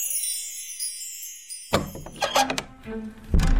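A thin high buzzing gives way to a door thudding shut, followed by several sharp wooden and metallic knocks as a bolt is slid and rattled into place, ending on a heavier clunk.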